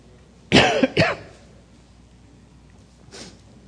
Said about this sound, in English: You'll have to put up with my cough this morning. I'm still fighting that bug I mentioned last week.